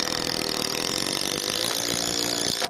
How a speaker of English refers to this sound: uses a cordless power drill to screw one end of a heavy board to an upright corral post.